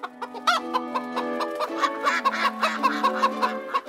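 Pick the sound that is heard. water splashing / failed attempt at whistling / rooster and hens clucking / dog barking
rooster and hens clucking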